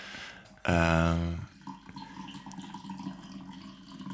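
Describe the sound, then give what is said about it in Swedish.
Coffee is poured slowly into a cup, a steady liquid trickle with a faint ringing tone, after a brief loud burst of sound near the start. “Det är alltså inte jag som kissar utan Kristoffer som häller upp kaffe.”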